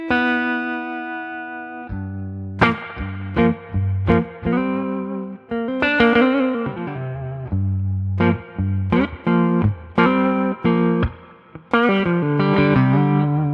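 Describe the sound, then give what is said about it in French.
A loud, effects-heavy electronic instrument plays a run of sustained, harmonically rich notes with sharp attacks every second or so, carrying a slightly distorted, washed-out tone with added reverb and no voices. “Si je mets un peu plus de reverb.”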